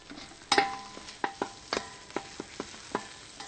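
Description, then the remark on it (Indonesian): Food with torch ginger flower (bunga kantan) sizzles steadily in a hot pan as it is fried and stirred, a utensil scraping and clinking against the pan in a loose series of sharp strokes, fairly loud, with no talking. “Goreng saja. Yes. Goreng terus. Ya, goreng terus. Diaduk sebentar.”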